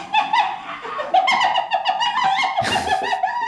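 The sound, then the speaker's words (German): A spotted hyena's laughing call: a rapid run of high, yelping giggles with rising and falling pitch, loud and continuous, ending in a harsher burst. “Es ist eine Lachhyäne oder auch Tupfelhyäne genannt.”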